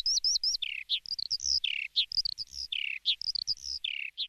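skylark singing

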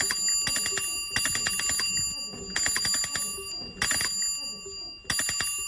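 bicycle bells ringing

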